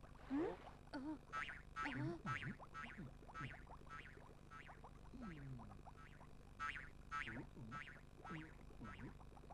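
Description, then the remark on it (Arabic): A frog croaks over and over in quick, springy bursts, each call bending up and down in pitch, fairly quiet and steady across the whole stretch with no voices. “إنه ضفدع.”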